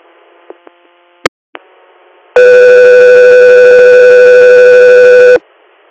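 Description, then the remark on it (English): A few short radio clicks and squelch pops, then a single loud, steady dispatch alert tone holds for about three seconds before cutting off abruptly, ahead of a radio call for an interfacility patient transfer request. No voices. “Guthrie here, standby for tones.”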